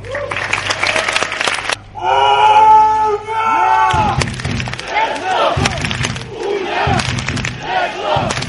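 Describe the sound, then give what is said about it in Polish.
A large stadium crowd of Unia Leszno speedway fans in Leszno, Poland, cheers loudly, then breaks into a sustained, tuneful chant with harmonic voices, followed by rhythmic thumping beats and continued roaring under the noise. “Ja myślę, że z takim dopingiem na pewno poniesiemy nasze leszczyńskie byki do złota.”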